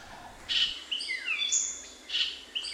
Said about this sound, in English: I remember standing there in the Belize forest, the rainforest down there, just listening to what I might hear, and then this bird comes along. And it's like, oh my God, that can really be a bird and sound so musical.